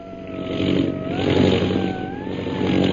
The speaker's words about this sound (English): Meanwhile, far ahead, Myra Trent's pilot fights desperately to keep her disabled plane in the air. They've been coming down in a long glide, in a vain attempt to find a safe landing place.